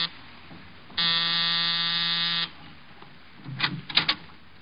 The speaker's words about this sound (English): A half hour after I left George Victor, I was punching the buzzer to Saxon's apartment.